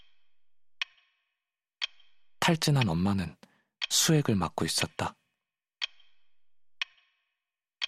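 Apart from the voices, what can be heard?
clock ticking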